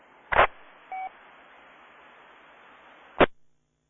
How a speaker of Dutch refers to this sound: Oeh, ik hoor een station heel diep in de ruis.